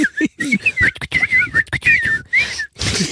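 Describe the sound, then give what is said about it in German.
A person whistles a warbling, trilling bird call imitation, the pitch fluttering in quick chirpy runs broken by brief breathy gaps, continuing for about three seconds with no talking. “Jetzt empfehlen wir uns auch noch mal ein paar Vögel zu synchronisieren.”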